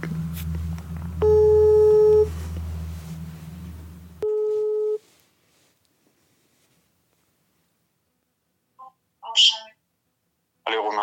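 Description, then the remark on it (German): The ringing tone of an outgoing telephone call sounds in two steady electronic bursts, a long one over a low hum followed by a shorter one, then the line falls quiet apart from a few faint clicks. “Wir sind die Firma ABH, Anruf bei Huhn.”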